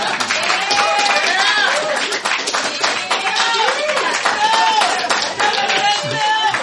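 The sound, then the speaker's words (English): A crowd applauds loudly and steadily for several seconds, dense clapping mixed with whoops, cheers and shouting voices throughout, as an audience votes by applause on whether the Nerdalogs website should switch to nerdalogs.website. “So, by applause, should the Nerdalogs website switch to nerdalogs.website.”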